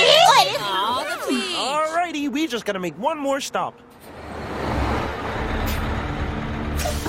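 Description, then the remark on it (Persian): Lively gliding vocal sounds give way to a school bus's air brakes releasing a long, steady hiss with a low engine rumble, fairly loud, lasting a few seconds. “اتوبوس مدرسه الانش هم همونجاییم.”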